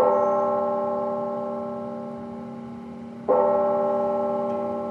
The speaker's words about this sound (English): Today in Chattanooga, Tennessee, a somber moment. Late this afternoon, several churches and chapels rang their bells.